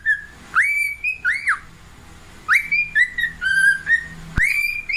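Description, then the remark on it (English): A pet bird whistles loudly at its reflection in a mirror, moving its head, in clear, tonal phrases: quick upward swoops into held mid-high notes, in two bursts separated by a short pause, with a sharp click near the end. “So this is the bird right here.”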